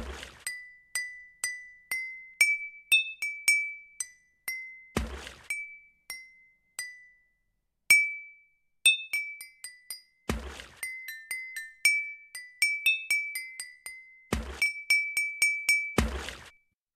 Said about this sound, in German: Auf geht's, wieder ein Lied und die Ohren spitzen. Wasserorgel, die vierte.